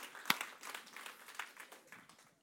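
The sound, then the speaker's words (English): Scattered audience clapping at a point in a sermon, a loose spatter of uneven claps with one sharp, loud clap early on, tapering off and fading out by the end. No one speaks. “Come on, that's a good clapping point right there.”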